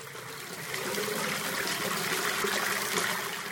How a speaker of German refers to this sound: Und das ist das Waschbecken. Hier kommt auch Wasser raus.